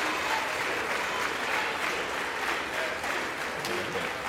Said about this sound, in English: And I believe has introduced the new Speaker of the House, Mike Johnson of Louisiana. House representatives on their feet. It appears most Democrats and Republicans are on their feet, giving the new Speaker a round of applause.